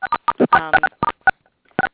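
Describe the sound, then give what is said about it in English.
A rapid, irregular run of phone keypad tones, about a dozen short dual-pitched beeps clustered together and clear, from people pressing *6 on their phones to mute a phone call, with a brief muffled voice-like burst mixed in among them. “Also, what everybody else can do, if there is any more background noise, is if you can press *6 on each of your phones.”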